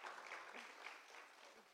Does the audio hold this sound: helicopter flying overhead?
no